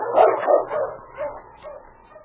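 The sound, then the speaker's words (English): A team of sled dogs barks and yips in a quick, uneven run of calls, loud at first, then growing fainter and more scattered toward the end, as the team heads over the back trail toward a cabin. “King quickly turned the dogs to the team.”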